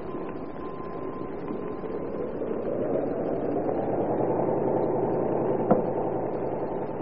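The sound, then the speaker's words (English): A bus engine running on the road drones steadily with a low rumble, its tone swelling and rising slightly partway through, and a brief sharp click near the end. No one speaks. “How fast can you drive this great big bus”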